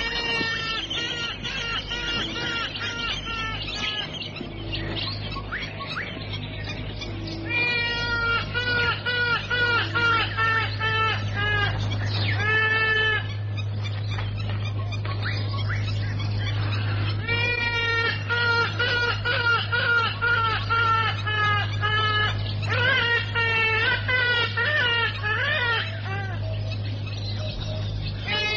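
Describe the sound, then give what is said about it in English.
A trumpeter hornbill perched in a nearby tree calls over and over with nasal, wailing, bleat-like cries, fairly close and loud, in bursts throughout, over a steady low background hum. “Perched on a nearby tree, a trumpeter hornbill watches the scene.”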